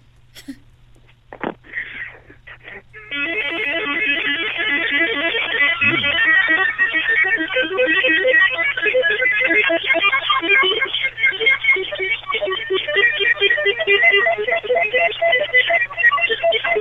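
A fast, busy electric guitar solo comes through a phone line, thin and tinny, pouring out a continuous flurry of rapid notes after a few quiet seconds, loud and unbroken to the end.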